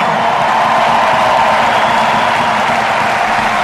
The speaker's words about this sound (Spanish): Esta es la última ovación de momento y va a haber más para don Rafael Nadal Pared.